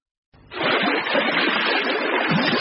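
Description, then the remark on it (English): Steady sloshing and splashing of water starts abruptly and continues without pause, as a man wades across a river carrying a person. No voices are heard. “Now you can carry me across the river again.”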